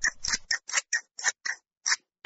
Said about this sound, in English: she begins by cutting the wool off the backs of the sheep with scissors